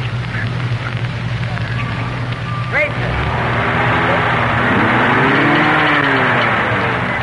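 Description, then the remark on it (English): Heavy military truck engines, in soldier-loaded convoy columns on a street, rumble to life outdoors, one revving with a rising and falling drone over a steady low hum, set against broad crackling background noise and faint murmuring voices. “And now the motor vehicles are beginning to start their motors, and it won't be very long until they start pulling out and heading south on 31W, heading eventually for Camp Shelby.”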